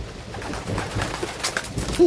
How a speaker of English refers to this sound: What is that sound? It comes from beneath this pile of leaves. A dove. What is it, little one? You have a broken wing.